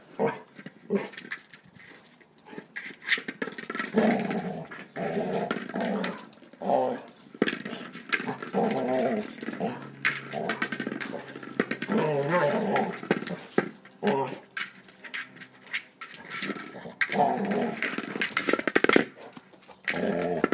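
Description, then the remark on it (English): A dog growls playfully in rough, rumbling bursts, with short yips and snuffling mixed in, as he knocks something into his run and wags his tail, continuing unevenly for the whole stretch at moderate loudness with no one talking. “He's hitting it into his run now.”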